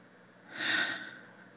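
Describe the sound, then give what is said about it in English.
A single deep breath, taken as part of a guided breathing exercise, swelling into a soft airy rush and then fading away. No one speaks. “Let's begin with a deep, nourishing breath. Another.”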